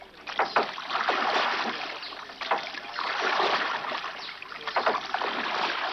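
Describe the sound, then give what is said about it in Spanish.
Sea water sloshes and splashes steadily around a small boat on a very dark night, a continuous wash of surging waves with a few sharper slaps against the hull, and no voices. “No sabemos hacia dónde nos lleva este mar.”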